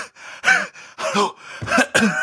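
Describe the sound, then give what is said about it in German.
A voice imitates heavy panting: five or six quick, breathy gasps in a ragged rhythm, fairly loud, with no words spoken. “und rennen dann da ein paar hundert Meter den Berg hoch und ich fall dann da hechelnd daneben in den Graben rein.”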